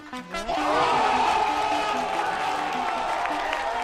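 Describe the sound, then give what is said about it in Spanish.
Applause from both quiz-show teams breaks out after a correct answer and holds steady, a loud, dense wash of clapping mixed with crowd cheering and a few whoops, with a voice briefly heard at the start. “Me encanta que estén aplaudiendo los dos equipos, pero qué bonito es esto, ¿no?”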